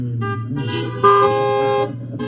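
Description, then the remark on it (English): Several car horns honk at once in agreement with a prayer, overlapping in short and sustained blasts, with one long, louder blare in the middle over a low idling rumble. No one speaks. “If you agree with that prayer, say amen or honk your horn.”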